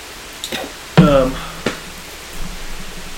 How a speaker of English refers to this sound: How are we doing with noise volume with the rain? All right. I think we're all right. Hopefully everyone can still hear us. We'll just talk a little bit louder.